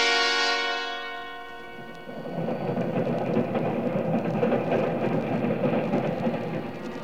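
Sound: train rolling on tracks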